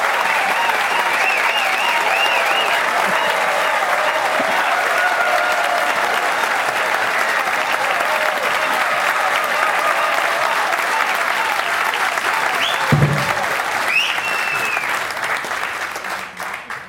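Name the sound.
audience applause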